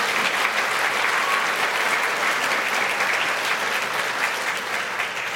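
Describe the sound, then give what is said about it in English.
A church audience claps steadily for several seconds during a service, a round of applause for a woman's 90th birthday, a dense, even wash of many hands with no voices rising above it, holding loud throughout and easing only slightly at the end. “And so if you want to give her a round of applause, that would be appropriate.”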